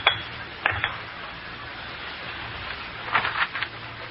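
A favorite pipe is knocked against a hard surface to remove unsmokable residue, at number one faculty row, in short, light taps: one at the start, another soon after, then a quick cluster of three or four, over a faint steady hiss.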